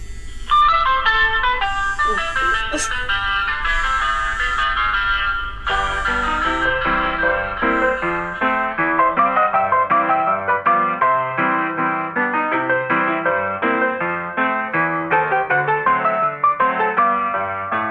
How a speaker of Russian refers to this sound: И я вам хочу сказать, что вот даже если сейчас мне позвонить по телефону, то вы тоже услышите джазовую мелодию.